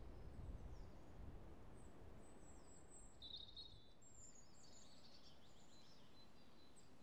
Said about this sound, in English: Apart from the springtime audible glow of the birds tweeting and tittering in the trees above me.